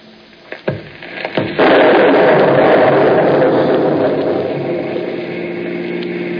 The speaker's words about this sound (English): Well, a winter lightning storm. That's unusual. Yes, I heard it.